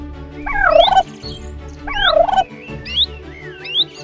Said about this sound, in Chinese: 前方传来吱吱喳喳的声音，是鸟叫吗？却又好像是一群动物嘈杂的声音。